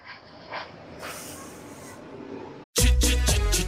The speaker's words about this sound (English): Here we go. It's another flyby.